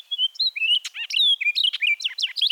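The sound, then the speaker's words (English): An orchard oriole sings a rapid, jumbled run of whistles, chatters and slurred notes, clear, with no other sounds around it. “orchard orioles often can't use the area for nesting anymore”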